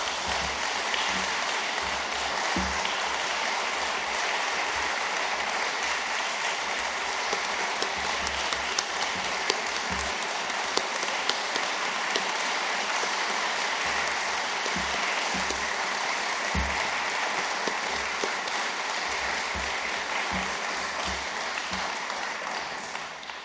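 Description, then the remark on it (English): Sustained applause from a large church audience for the departing worship pastor fills the whole stretch, a dense, steady wash of clapping with occasional louder claps poking through and no speech over it. “A round of applause.”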